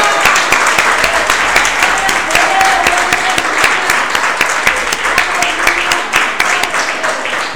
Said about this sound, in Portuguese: Então vamos aplaudir Jesus.